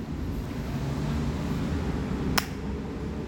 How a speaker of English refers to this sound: Okay, well, you want to clap?